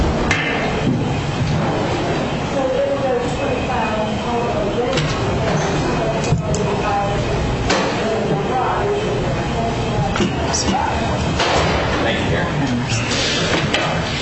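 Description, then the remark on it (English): A door thuds shut at a public board meeting amid the murmur of a roomful of people, with a few other knocks and bumps scattered through the indistinct background chatter. “Before we start, can we get that door to close?”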